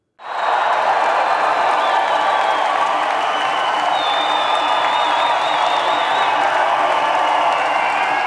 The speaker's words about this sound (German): Mit frenetischem Applaus ist die Mannschaft kurz nach dem halben Sieben zu Kloten im Schlufweg begrüßt worden.